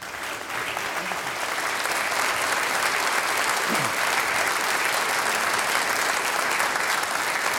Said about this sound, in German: Den größten Applaus kriegen natürlich die, die für uns gesungen und gespielt haben.